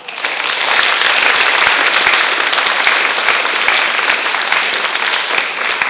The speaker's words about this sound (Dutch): Ik zou wel graag nu een groot applaus willen hebben voor alle vrijwilligers die dit hebben voorbereid.